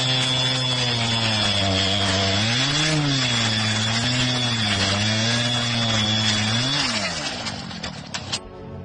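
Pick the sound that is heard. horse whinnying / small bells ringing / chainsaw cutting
chainsaw cutting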